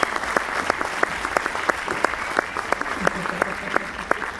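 An audience applauds steadily, a dense wash of many hands clapping with sharper individual claps popping out at a fairly even rhythm, sustained at a moderate level throughout.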